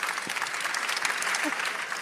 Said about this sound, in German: erstmal dafür Applaus, finde ich richtig gut.